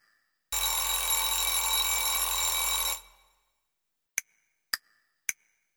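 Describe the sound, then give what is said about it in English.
An alarm clock's bell rings loudly and continuously at 8 o'clock for a couple of seconds, then cuts off, followed by three short, bright metallic pings spaced evenly apart. “It's 8 o'clock. I'm ringing to let you know. It's 8 o'clock.”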